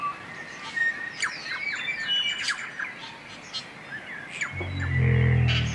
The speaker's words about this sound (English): They would have paddled through towering forests of Rimu, Totara and Kauri, filled with the deafening calls of thousands upon thousands of birds.